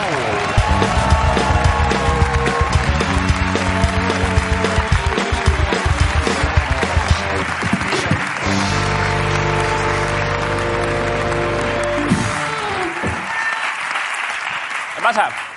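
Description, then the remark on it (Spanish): The studio audience of the Spanish show La Resistencia claps and cheers steadily for about fifteen seconds, loud, welcoming Goya-nominated guest Ana Castillo, while upbeat band music plays underneath, before the applause fades out at the end. “Un aplauso para Ana Castillo, La Resistencia.”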